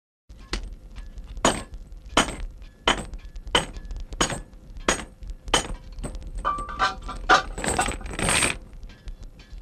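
Six gold coins are set down one by one as payment, each landing with a bright metallic clink in a steady counting rhythm, ending in a quicker cluster of jingling clinks. Clear, with no voices.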